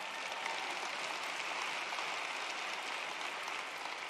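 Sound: audience clapping and applause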